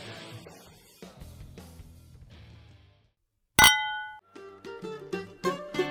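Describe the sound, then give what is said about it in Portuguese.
A single bright clink of wine glasses touching in a toast, ringing briefly and clearly, between stretches of background music. “Adorei esse vinho. Brinde história? Tchim-tchim!”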